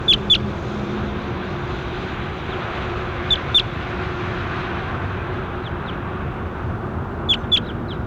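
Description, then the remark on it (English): Short, high calls of bird 27, being recorded, come in brief pairs, spaced a few seconds apart, over a steady low engine-like rumble. The chirps are sharp but fairly faint, and no one speaks. “That was bird 27.”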